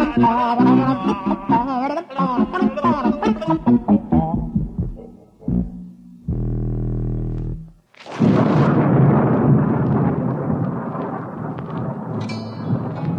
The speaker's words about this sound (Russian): Однажды вечером разыгралась страшная непогода. Гремел гром, сверкала молния, дождь лил, как из ведра.